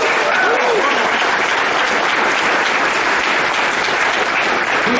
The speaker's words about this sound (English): Yeah. Round of applause.